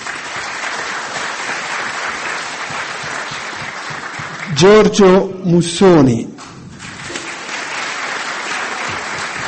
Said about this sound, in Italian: che anche sulla nostra ragionevolezza dei sindacati rappresentati oggi e riuniti in questa sala, che sono SIB Confcommercio di Riccardo Borgo, vorrei un applauso per favore.